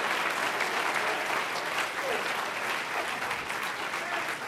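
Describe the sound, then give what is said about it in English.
A church audience claps their hands in praise to the Lord, a dense, steady wash of many overlapping claps that holds at an even, fairly loud level for the whole stretch without pause. “Oh, if you love Him and His ways, clap your hands unto Him and bless His name.”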